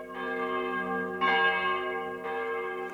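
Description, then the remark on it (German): Church bells ring steadily from towers in a small town at eleven o'clock, with long, overlapping metallic tones, fresh strikes landing about a second apart and swelling over a sustained hum, resonant, with no voices. “Die Stunde, wo von den Türmen die Glocken fallen und über die Dächer gehen.”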